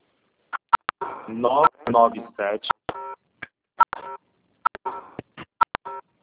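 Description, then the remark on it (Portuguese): Phone keypad tones from someone's mobile phone beep in a quick, irregular series of short, bright presses, some clustered and some spaced apart, while a voice talks over the middle of the sequence. “Gente, tem alguém digitando, não sabia.”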